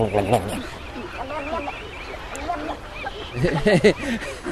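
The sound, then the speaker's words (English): Guttural, bubbling calls of snowy egrets come in quick bursts, loudest at the start and again near the end, over a busy background of other bird sounds. “That's the egret, snow egret, but it's kind of what we call, I think it's called bubbling, but it's just the sound that they make, and it's just kind of a unique sound.”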